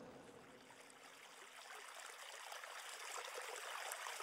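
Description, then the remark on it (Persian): Steady flowing water from a stream, a continuous bubbling rush heard alone, growing slightly louder toward the end. “حضرت عباس با دشمنهای زیادی روبرو شد و همگی را دور کرد و از بین همهشان رد شد تا بالاخره به کنار نهر آب رسید.”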